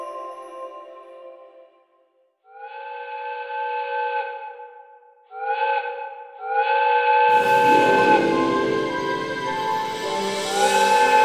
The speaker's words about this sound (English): The whistle blew loudly, piercing the English countryside, as the 5 o'clock express from Harrogate pulled into Leeds Station.